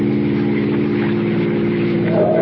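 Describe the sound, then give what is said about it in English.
A car engine drones loudly and steadily with a low, throbbing hum, then its pitch climbs near the end as it speeds up. No one speaks. “And here's where I let her out a bit.”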